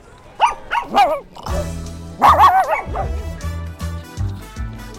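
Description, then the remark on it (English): Several small dogs yip and bark in quick, high-pitched bursts at the Milken Institute Global Conference in Beverly Hills, California, fairly loud, with a few whiny notes mixed in over a low, steady droning background. “I'm really watching the little dogs here, quite cute.”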